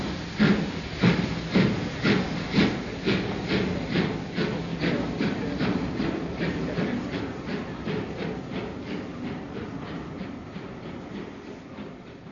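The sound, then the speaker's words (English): A steam train pulls away with a steady rhythmic chuff and clickety-clack, loud at first, then gradually fading as it moves off. No voices. “I should have been on that train.”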